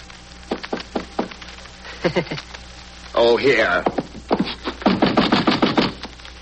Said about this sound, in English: And knock on the concierge's door.